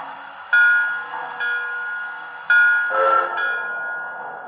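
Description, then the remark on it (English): Train number 4250 pulling into Red Bank station on track one, its bright, sustained tonal ringing swelling anew three or four times over a low rumble, loud, with no one talking. “Kansas City on track one. Train number 4250, the Blue Comet.”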